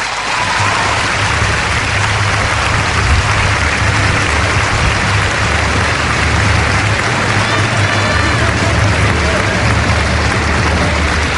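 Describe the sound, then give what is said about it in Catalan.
A large crowd applauds loudly and steadily for about ten seconds for the team's players and staff at a title celebration, a dense, continuous wash of clapping with a low rumble underneath and no letup. “Un fort aplaudiment per tots, sisplau.”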